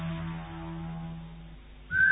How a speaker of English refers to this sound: Sure, you can whistle while you work.